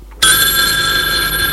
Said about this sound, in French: Il est 21h30. Le téléphone sonne.